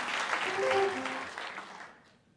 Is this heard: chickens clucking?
no